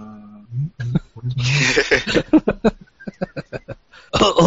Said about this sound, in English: I think the all new, all different here is that, excuse me for a second, I need the cough button.